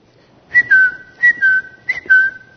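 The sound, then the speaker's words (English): Someone whistles a bird-like tweet three times in a steady rhythm, each a quick high chirp sliding into a longer, slightly falling tone, clear and fairly loud with no talking. “What is that? Tweet, tweet, tweet, tweet.”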